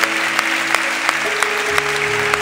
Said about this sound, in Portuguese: Você pode aplaudir mais uma vez?